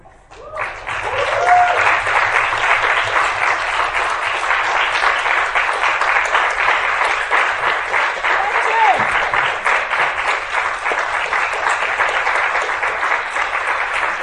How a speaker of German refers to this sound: Dankeschön. Danke. Danke. Ein ganz großer Extra-Applaus muss jetzt nochmal kommen